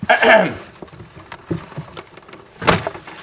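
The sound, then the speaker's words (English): Papery rustling as hymnal pages are flipped to hymn number 13 for a closing hymn, a few short swishing bursts scattered across the moment, moderately loud, with faint shuffling between them. “Let's grab our hymnals for a closing hymn. And open up to hymn number 13.”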